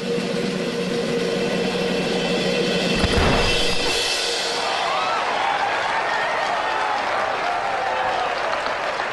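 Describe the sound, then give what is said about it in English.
Steady, dense applause from a large crowd fills the whole stretch, swelling briefly into a louder burst partway through before settling back into a continuous clapping roar. “It's like the sharpest criticism of the Roxy mindset, and that it gets all that applause in the alternate world is like really chilling.”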